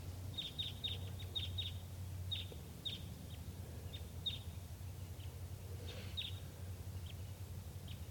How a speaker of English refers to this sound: At 9:22 a.m., wild birds coming in. Sounds like type 2.